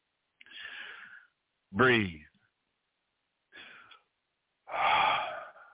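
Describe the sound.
Deep breaths drawn in and pushed out, fairly loud, with one voiced, gasping inhale among four separate breaths spaced by short silences.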